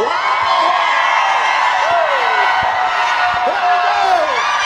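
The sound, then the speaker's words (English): A large crowd cheers and shouts continuously, many voices overlapping into a steady, loud roar with occasional higher whoops rising above it throughout. “Got a big crowd.”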